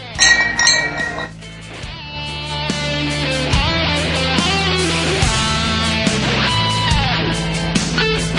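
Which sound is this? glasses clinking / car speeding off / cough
glasses clinking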